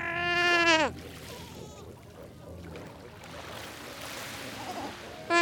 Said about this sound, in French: Donc là, on est en train d'écouter une colonie d'otaries à fourrure en Namibie. Donc vous avez une mère là qui cherche son petit. On l'entend crier. Puis il y a le petit qui chevrotte un peu. Souvent, on assimile les cris des petits à des moutons.